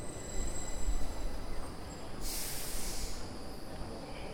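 A high-speed train to Stockholm, Sweden, rumbles steadily, with a faint high whine above the low roar and a sharp burst of hissing air for about a second midway. No one speaks.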